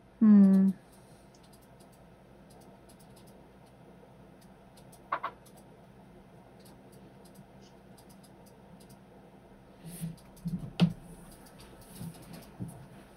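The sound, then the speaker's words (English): Soft, scattered keyboard clicks from a few people typing at once, faint and irregular throughout, with a brief low hum-like burst at the very start and a couple of sharper taps later. “Several people are typing.”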